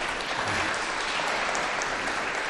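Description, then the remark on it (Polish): An audience claps steadily, a dense, sustained patter of many hands at even loudness throughout, with no voices standing out. “Też brawo.”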